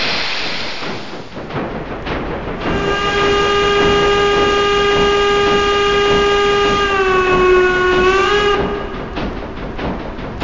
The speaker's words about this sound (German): Gleis 5 fährt ein, der Sonderzug nach Meiningen. Bitte Vorsicht am Bahnsteig.